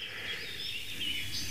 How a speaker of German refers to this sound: Also, ihr habt viele Tauben gehört, die Hohltaube. Und die Ringeltaube.